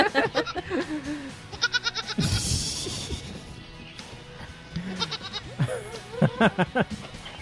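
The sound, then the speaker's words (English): A little goat bleats several times in quavering, nasal cries, with a sudden loud clatter partway through and more bleats toward the end, with some background noise. “Little goat makes good fake.”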